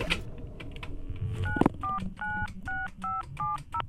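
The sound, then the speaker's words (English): A rapid string of about eight electronic touch-tone beeps as a phone number is dialed, each short dual-pitch tone evenly spaced, preceded by a few clicks of handling, clear with no talking. “Come on, let's phone home.”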